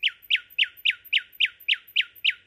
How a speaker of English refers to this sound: I feel a great sense of accomplishment. I finally got the recording I wanted, of a nightingale just a stone's throw from my own bed.